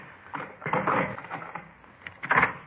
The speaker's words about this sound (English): Here, let me get that door for you.